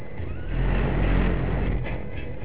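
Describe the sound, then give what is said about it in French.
A car engine revs as the car approaches a roundabout, a loud low growl that swells in the middle and then holds steady, continuous throughout with no voices. “Ben on n'entendra plus le moteur, eh. Pas grave, je te fais hurler.”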